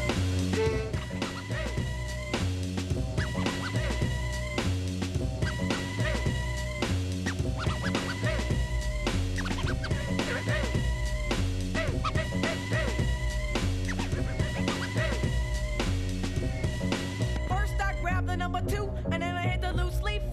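A circa-1993 hip-hop track from the Tommy Boy label plays its instrumental intro loud, with a heavy, steady bass beat pulsing in a regular rhythm under layered samples for the full stretch.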